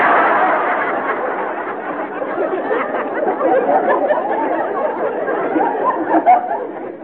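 A studio audience applauds in a dense, steady wash of clapping that holds for about seven seconds, mixed with crowd murmur and a brief swell near the end.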